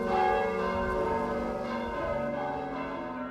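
signal or alarm, church bells ringing

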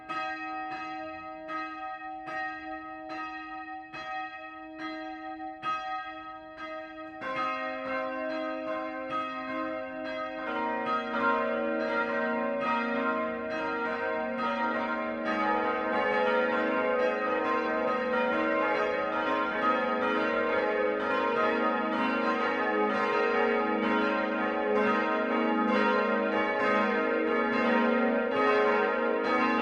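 signal or alarm, five church bells ringing

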